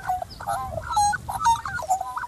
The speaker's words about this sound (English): It's a magpie. They make lots of different sounds. But my favourite one is... yeah, that one. The warble.